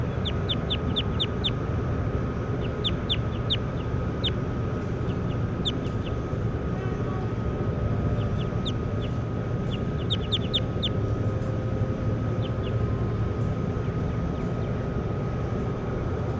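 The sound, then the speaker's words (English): Bird calls from bird number 10 being recorded: clusters of short, high-pitched chirps come in quick bursts, pausing between groups, over a steady low rumbling hum that runs throughout. “We're recording bird 10.”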